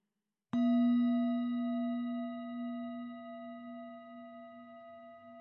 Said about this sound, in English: Whenever you hear this bell, tell yourself to relax and let go. Each time you hear the bell, relax.